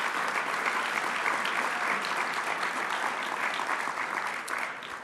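Sustained applause from a sizable audience, a dense steady patter of many hands clapping at even volume throughout, tapering slightly at the very end.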